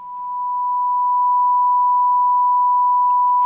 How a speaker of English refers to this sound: If we were to represent our Heavenly Father, His qualities, His attributes, His thoughts and His actions as a sound wave with a single frequency, we would hear a pure tone.